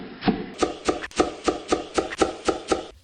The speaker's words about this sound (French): Comment faire? Couper les épinards et les endives en petits morceaux.